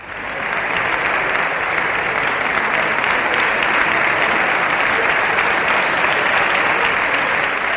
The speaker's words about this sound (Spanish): Que Pedro Sánchez, por ejemplo, acude al Congreso para presumir de las ayudas europeas, pues allá que se presenta toda la bancada socialista apretados como piojos en costura para que no les pongan falta en el enésimo aplauso al líder.